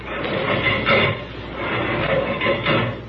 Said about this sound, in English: Boy, did you feel the air in this cabin rush out when I opened that door?